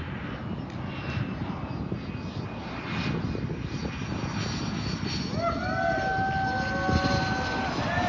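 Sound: airplane landing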